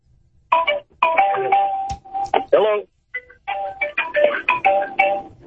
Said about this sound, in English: Hello. Yeah, just listening to your ringtone. Talk about timing. Yeah, you got your Apple ringtone.